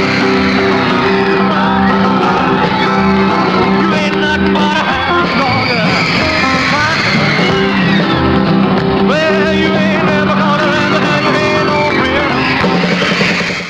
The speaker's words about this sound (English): but something he was doing below the waist was causing screams from girls in the audience. He was gyrating.